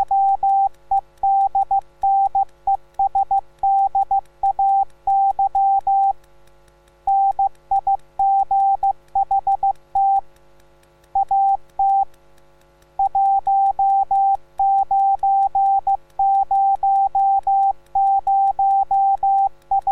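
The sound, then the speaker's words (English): A steady, high-pitched tone keyed on and off in quick Morse code dots and dashes, sent continuously at a brisk pace with a few short gaps between groups, clear and loud with no voices. “Were you able to read what has just been sent? Would you like to be able to read Morse?”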